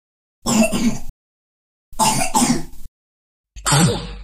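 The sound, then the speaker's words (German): Three rough bursts of coughing and throat clearing from a person with a cold with cough and runny nose, fairly loud, separated by short silences; the last one is harsher and breathier than the first two. “Erkältung mit Husten und Schnupfen, Klassiker.”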